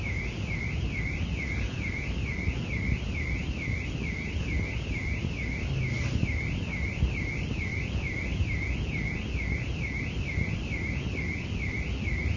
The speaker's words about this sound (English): Is that a car alarm?